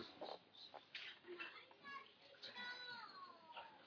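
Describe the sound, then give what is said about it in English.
Several excited chickens, which have just arrived, cluck and squawk in a steady, overlapping chatter, with higher rising calls breaking through, sounding slightly muffled. “The chickens have arrived. That's what they're all excited about.”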